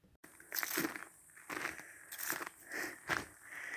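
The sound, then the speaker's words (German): Crunchy footsteps on gravel or a similar loose surface, about six steps at an unhurried, steady pace, clear with no talking: a person walking home in the evening from an inn in Wessobrunn to a construction trailer. “Knirsch, knirsch. Ich laufe gerade in der Abendstimmung heim, also zu meinem Bauwagen.”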